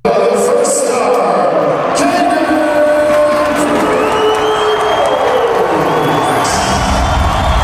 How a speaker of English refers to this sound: That was the crowd cheering Caden Primo's first star for the Laval Rockets shutout of the Belleville Senators.